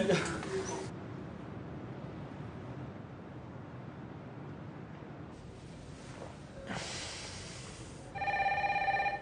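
A telephone starts ringing loudly near the end, a bright electronic ring cutting through steady wind-like background noise that fills the earlier part.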